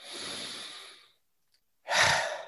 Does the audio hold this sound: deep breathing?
yes